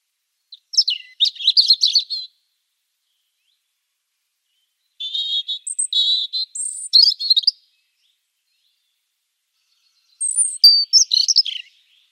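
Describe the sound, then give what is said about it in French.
A European robin (Erithacus rubecula) at a nest box sings three separate bursts of high, thin, warbling notes with pauses between them, clear against a silent background, with no voices. “Eh oui, c'est bien lui, le rouge-gorge familier.”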